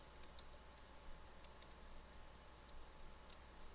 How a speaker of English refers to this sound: And my clock is ticking.